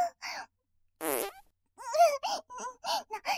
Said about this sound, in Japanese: ブリブリ汚い音が出ちゃう。本当のおならじゃないのに、なんか恥ずかしいよ。